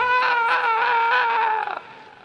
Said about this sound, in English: screams in his bed.